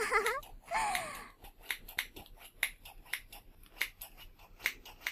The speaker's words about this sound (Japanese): 小さい頃カリスマ美容師ごっことかやったよね。最近カリスマ美容師って聞かないけどさおもちゃのハサミでチョキチョキって。